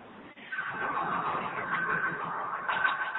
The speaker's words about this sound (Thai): มีเสียงรถยนต์นิดหนึ่งไม่รู้ใครขับรถอยู่หรือเปล่าระวังนิดหนึ่ง